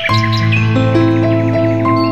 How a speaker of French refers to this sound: Écoute ça. C'est spécial, hein? C'est toutes des pièces connues comme ça. Toujours des oiseaux au travers de ça. C'est vraiment magnifique.